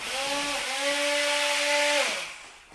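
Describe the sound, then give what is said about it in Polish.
A blender grinding lightly boiled meat whirs loudly with a steady, high-pitched electric whine and a rough grinding hiss, holding for about two seconds before spinning down as it switches off. “się miele, potem jest blender.”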